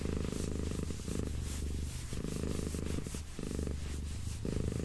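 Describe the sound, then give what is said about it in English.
A cat purrs in a steady, low rumble that swells and eases with each breath, repeating in a regular rhythm for several cycles with no voices, while being petted and kneading. “Maybe after your cat leaves, but I don't think she's leaving anytime soon.”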